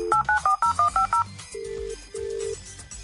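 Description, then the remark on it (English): A quick string of about eight short keypad tones as a number is dialed to phone the North Pole, followed by two longer, lower ringing tones on the line. No one speaks. “Our attempt number two to phone the North Pole.”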